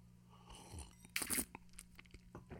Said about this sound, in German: Und meine Frage gesagt, gehst du wieder schlürfen? Ja, ich schlürfe wieder. Ich kann da schlürfen schnell.